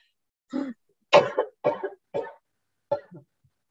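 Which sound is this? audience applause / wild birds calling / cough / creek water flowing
cough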